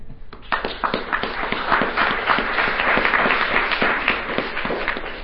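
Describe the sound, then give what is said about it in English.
An audience bursts into sustained applause after a presentation of a research study, many hands clapping in a dense, steady patter that holds at an even level for several seconds, with no voices heard. “So you deserve extra applause for that alone.”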